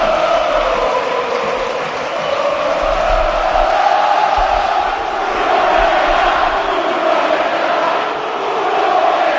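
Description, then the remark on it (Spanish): The football crowd in the stands at Mestalla stadium in Valencia shouts together near the end of Valencia's 0-0 draw with Betis, a loud, continuous roar of massed voices that swells and eases slightly in waves, with no single speaker standing out. “pero antes la otra noticia del día ha estado en Valencia, con estos gritos de la grada en Mestalla.”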